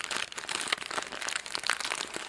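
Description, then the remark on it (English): Steady, dense crackling of paper being crumpled and crinkled, a busy stream of small sharp crunches, fairly soft overall, with no voices. “Or if I hear a fire, I'll say, stop crackling up paper.”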